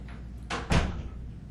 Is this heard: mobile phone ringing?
no